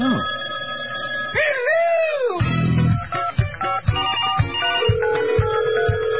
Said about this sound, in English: We have a caller. Yay. Hooray. And we're going to go to the phones right now